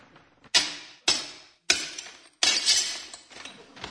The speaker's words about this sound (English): There were several bombings as well as famous plate glass day when groups around the country smashed shop windows.